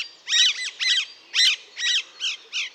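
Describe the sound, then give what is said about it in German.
A flock of Alexandrine parakeets screeching: six harsh, high, grating squawks in a steady series of about two per second, loud and overlapping slightly, with no voices present. “wenn dir so ein Schwarm Alexandersittiche in den Baum einfällt und Äpfel frisst”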